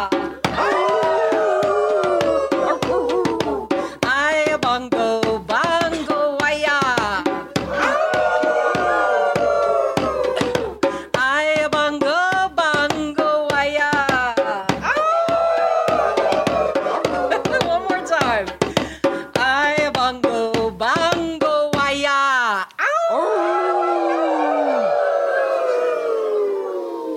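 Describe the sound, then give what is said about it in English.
A large crowd howls together like wolves after a leader's call of 'Aya Bongo, Bongo Aya', many voices rising and falling in long overlapping wails, loud and sustained for over twenty seconds before a final few howls trail off. “So after I say Aya Bongo, Bongo Aya, we're going to howl.”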